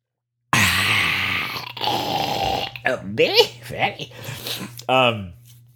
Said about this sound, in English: One moment, please, while I have a sip out of my ice water here. One moment, please.